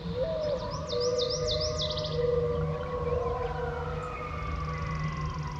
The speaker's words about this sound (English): Coyotes. One final call before heading off to sleep, giving the day over to the song of birds.